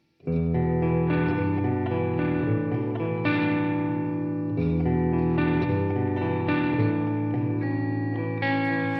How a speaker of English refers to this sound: Okay. So one run through with more reverb. Sure. Let's do it.